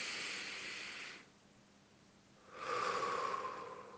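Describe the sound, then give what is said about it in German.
Two long, airy breaths: a deep inhale, a short quiet pause, then a slow, full exhale, with no talking, demonstrating deep, calming belly breathing. “Ne, dann atmen wir tief ein.”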